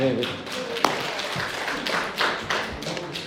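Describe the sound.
A crowd at a church service claps hands together as encouragement for the person running the broadcast, in a dense, continuous burst of overlapping claps lasting a few seconds, with a few sharper taps standing out and some voices mixed underneath.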